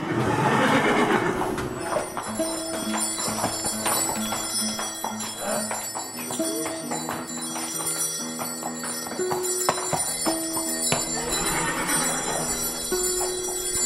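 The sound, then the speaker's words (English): Draft horses whinny loudly near the start and again near the end, while bright bell-like jingling rings steadily throughout, as a team of draft horses is being harnessed. “It goes around the horse's bum. So I watch my dad harness the team.”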